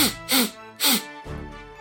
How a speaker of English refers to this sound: I was expecting a giggle with the sniffle, but, you know, that's fine. I thought he was stifling laughter.